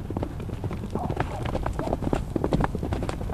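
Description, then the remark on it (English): The hooves of a young Arabian gelding clip-clop in a steady, uneven rhythm of sharp knocks, moderately loud, continuing throughout with some low rustling underneath and no clear talking. “This is Mo. Mo is brand new to Horse Hill. He's a young Arabian gelding.”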